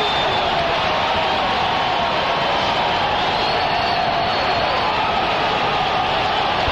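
A huge stadium crowd at a football game roars in a steady, loud wall of cheering that holds without a break, with a few higher whoops and shouts rising out of the din, after the Saints block a kick and Curtis DeLoach covers it in the end zone for a touchdown.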